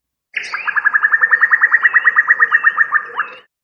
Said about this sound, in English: That is also a cuckoo, but a female. This call, known as bubbling, is not often heard and is used for contact purposes with males.